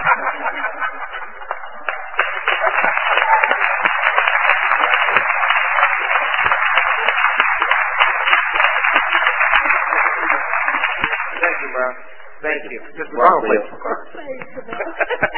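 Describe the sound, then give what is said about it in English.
Council members and the audience give a standing applause, a steady, dense wash of clapping for about twelve seconds, then the clapping thins out into scattered claps, murmuring voices and a bit of laughter. “and I see the people out there in the audience and the citizens there that y'all did a great job, and we need to stand up, colleagues, and give them a standing applause, because we deserve it.”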